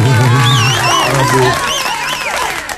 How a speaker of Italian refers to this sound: Applausi